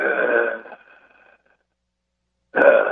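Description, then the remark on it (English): Heavy, rasping breaths come through a narrow, tinny phone line: one long, loud exhale that trails off into quiet, then after a pause another strong breath begins. “Oh my God, that breathing!”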